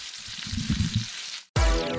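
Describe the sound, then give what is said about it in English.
Bacon crackles in hot frying grease, a steady bright hiss peppered with irregular pops for about a second and a half, then cut off abruptly by a loud, tonal burst of another sound. “Listen to that bacon crackling in that grease, y'all.”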